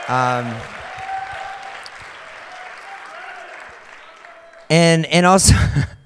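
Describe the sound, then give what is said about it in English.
A crowd bursts into a steady round of applause for a helper on a mission trip, lasting several seconds, a dense even patter of clapping. A voice speaks briefly before it, and talking resumes loudly as the clapping fades. “So if you guys could give a big round of applause for him.”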